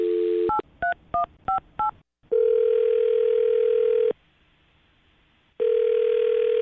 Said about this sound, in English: All right. Well, dialing her phone number right now. Here we go.